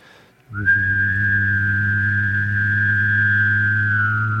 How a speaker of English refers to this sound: You can whistle and hum at the same time, but in that same kind of thing. So if you vibrate your lips as well as vibrating other parts of your mouth, so...